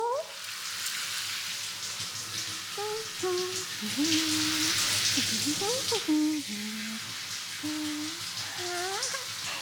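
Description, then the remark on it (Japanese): Steady shower spray hisses for the whole stretch as a head of hair is rinsed at a public bathhouse (sento), swelling a little in the middle, with faint wavering voice-like tones drifting underneath. “ではシャワーで頭流しますよ。”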